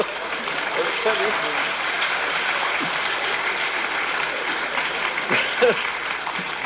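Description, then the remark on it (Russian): An audience applauds steadily for several seconds, a dense, even wash of clapping with a brief swell near the end and faint voices mixed in underneath. “Вы знаете, аплодисменты для актера это.”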